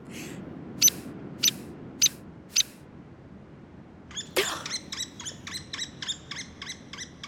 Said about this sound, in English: Earth Rangers, that is none other than the headbanger of the natural world, the woodpecker. A hairy woodpecker, to be exact. These birds love high forest mountains, just like the ones I find myself in.